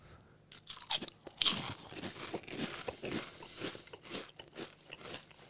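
Crisp crunching on Korean deep fried seaweed snacks from a bag, a rapid series of brittle, crackly bites and chews repeating irregularly throughout, fairly quiet with no talking.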